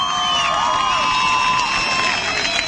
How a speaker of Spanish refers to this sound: Te hacemos gritar de emoción.